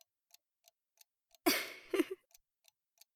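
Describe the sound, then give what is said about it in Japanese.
A clock ticks steadily at a quick, even pace, each tick crisp, while a loud breathy rush briefly swells over it in the middle before the ticking carries on alone. “僕が時計の針を戻し続ける限り、絶対に行くことはできない。”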